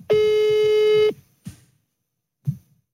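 A single steady phone ringing tone sounds for about a second as a live call is placed to a best friend, followed by silence with two faint, brief thumps; no one speaks.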